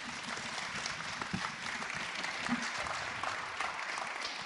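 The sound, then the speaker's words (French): Steady applause from an audience thanking the presenters after a question session, a dense patter of many hands clapping at an even level for several seconds, with no voices standing out. “Non, donc on peut les applaudir, les remercier.”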